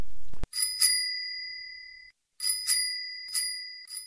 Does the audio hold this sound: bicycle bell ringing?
yes